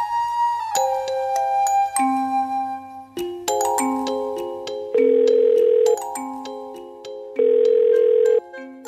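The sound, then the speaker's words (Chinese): A telephone ringback tone buzzes in two steady one-second bursts over a soft, tinkling melody, with the call going unanswered after being dialed several times shortly before midnight, and no voices heard. “已经拨了好几次电话，为什么还没有人来接呢？”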